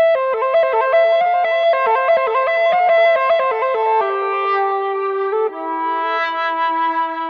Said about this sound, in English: Connected to an amplifier or any common effects unit, Elodie offers a completely new world of sounds. So let me introduce you to some of them. Stereo crunch with tempo delay.